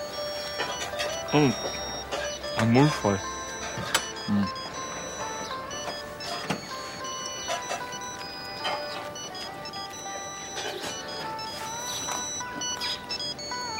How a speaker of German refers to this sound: dass es hier Handyempfang gibt, aber wieder mal ignoriert er das Klingeln. Mmh. Gehen Sie schon mal ran.